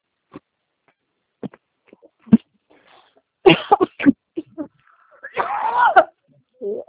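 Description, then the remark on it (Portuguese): Several harsh coughs come in quick bursts, with a couple of short hacks followed by a longer, raspy fit of coughing, separated by brief quiet moments and small throat noises. “Tosse.”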